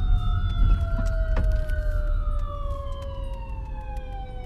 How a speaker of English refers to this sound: Someone called the ambulance because someone just failed somewhere, or something went wrong somewhere.